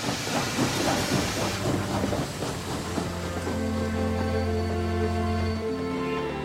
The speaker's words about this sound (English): Later that morning, a train pulls out of a station.